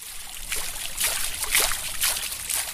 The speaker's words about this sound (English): For Carey, this place of marble fountains bubbling from manicured lawns and crystal chandeliers gleaming from pressed ceilings is the perfect setting for her unique enterprise.